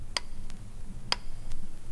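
grandfather clock ticking

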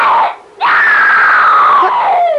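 a woman's scream

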